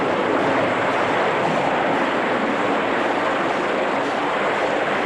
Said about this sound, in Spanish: Se abre un agujero en el fondo de la piscina y el agua se cuela por él.